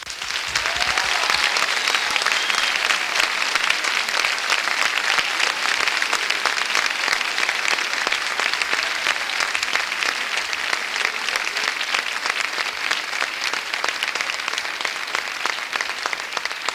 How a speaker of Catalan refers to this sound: El primer dels aplaudiments d'aquesta nit és per ells.